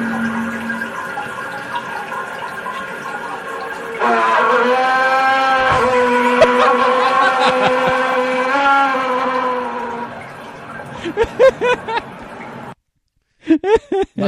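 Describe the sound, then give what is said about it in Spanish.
A toilet tank refills with a steady, whining hiss of running water that grows louder partway through, then cuts off as brief voices speak near the end. “Ahí empieza a cargar el tanque.”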